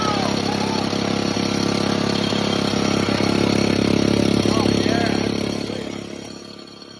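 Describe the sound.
An engine idles with a plastic tube attached to its exhaust, a constant low rumble and a throaty exhaust tone, faint voices murmuring underneath, before the sound tapers off in the final second.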